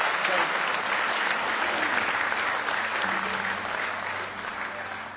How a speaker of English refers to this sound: Give the Lord one more good hand clap of praise this morning.